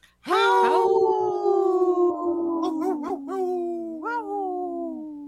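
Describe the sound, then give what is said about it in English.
A person imitates a wolf, giving one long sustained howl that glides slowly downward with small wavering bends near the end, loud with no other sounds. “Did you just say thank you and wolf and wolf talk?”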